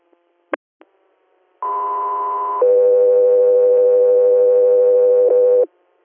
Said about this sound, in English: 3 Air, standby for tones.